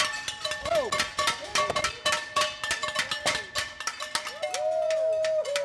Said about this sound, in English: Soon enough at 7 o'clock, we head outside, where some very prompt neighbors have already gathered with pans and noisemakers they use every night.